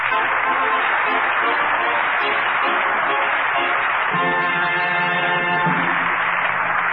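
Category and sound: crowd, studio audience applause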